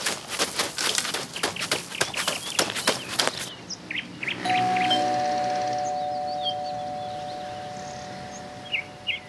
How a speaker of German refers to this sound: dann lass uns bei Frau Meier klingeln, aber leise.